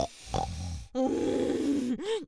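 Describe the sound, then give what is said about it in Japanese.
A crude, pig-like nasal snort from a human voice: a soft breathy snuffle, then a long, loud, buzzing grunt, ending with a short rising-and-falling snort. No words are spoken. “超下品な鼻音。”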